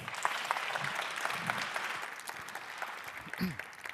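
An audience applauds steadily for several seconds, a dense wash of clapping at an even level, with a few faint voice fragments surfacing underneath.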